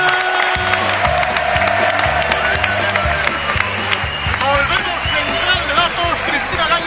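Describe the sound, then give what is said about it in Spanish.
A studio audience claps and cheers steadily for several seconds, a dense, loud wash of applause with crowd noise, while a rhythmic bass beat of music pulses underneath. “un aplauso grande donde los raya para don Miguel”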